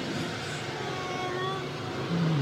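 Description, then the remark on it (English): An old car's engine hums over steady road noise as it is driven onto a freeway, its pitch climbing as it revs and accelerates, then a deeper, louder engine tone swells in near the end. “I think I'll give this old baby a spin on the freeway.”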